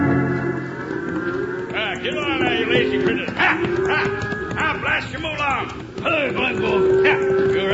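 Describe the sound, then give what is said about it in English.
A herd of cows being driven to Dodge City moos and bellows in overlapping calls, steady throughout, with hooves clattering and other animal noises mixed in underneath. “These are my cows, and I gotta get them to Dodge City before Toby Tyler drives his in.”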